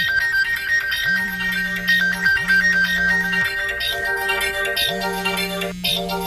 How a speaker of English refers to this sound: I'm getting a phone call. Hold on a second.